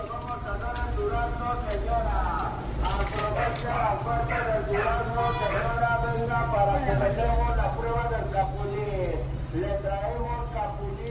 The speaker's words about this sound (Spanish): Camión de fruta.